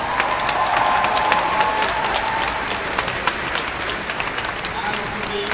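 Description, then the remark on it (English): Sustained applause for Evan Harris from a large audience at an event, a dense crackle of many hands clapping at a steady, loud level throughout, with a faint murmur of voices mixed in. “I think you should keep the applause going for Evan Harris, who's done so much for this event today.”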